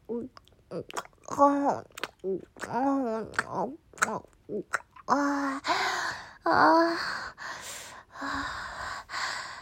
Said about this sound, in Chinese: 现在的喘息声好重啊！我喜欢爸爸这样的声音，好甜。